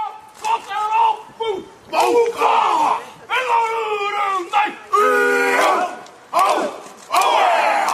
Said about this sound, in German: Eine Motorradgang führte heute vor der Al-Nur-Moschee den traditionellen Haka-Tanz der Ureinwohner, der Maori, vor.